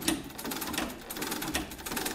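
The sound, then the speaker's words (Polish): A sewing machine rattles steadily, its rapid mechanical clatter running continuously with a fast, even rhythm and no voices. “że właściwie jego dzieciństwo kojarzy się tylko i wyłącznie z terkotem maszyny do szycia, ponieważ to była jedyna muzyka, jedyny dźwięk, który towarzyszył mu od rana do wieczora.”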